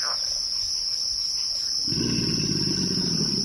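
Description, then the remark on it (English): A steady high drone of frogs and insects fills a Louisiana bayou night ambience with bird songs, then a deep rumbling alligator grunt rolls in about halfway through and continues, loud. “Kim Wilson recorded this chorus of bird songs, frog calls, alligator grunts, and the squeal of an amphibian being skewered by a heron in the primordial waters of the bayou.”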